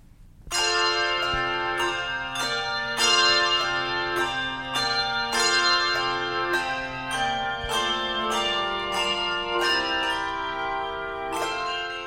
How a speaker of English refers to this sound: And finally today, this holiday audio postcard from …. And we perform on a 6-octave range of bells. So we have from G2 all the way up to G8.